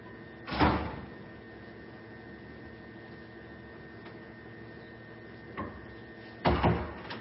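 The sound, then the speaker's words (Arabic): A door thuds shut twice, once near the start and again near the end, with a softer knock between, all over a steady low electrical hum, as a girl is told to shut the door during a live-streamed lesson. “صك الباب يا حبيبتي، صك الباب، معك مجال، انتظروا قليلا.”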